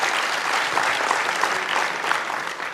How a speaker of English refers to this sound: And I would like to ask the mentors and the students of all the Summer of Codes so far to stand up. Applause. And a round of applause. Thank you.